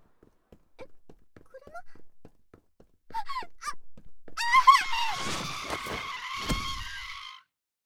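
Soft, quick footsteps are followed by a loud, piercing screech of car tires skidding for a few seconds, with heavy thuds of the car hitting a person breaking through the screech before it cuts off.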